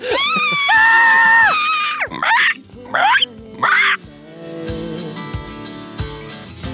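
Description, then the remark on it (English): A voice imitates birds screeching horribly: a long, loud, shrill wail followed by two sharp squawking bursts, then the screeches fade into a lower, ragged tail. “The birds are screaming their horrible screams.”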